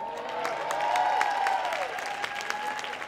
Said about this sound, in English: Who do you think did that? Yeah, you can cheer louder than that.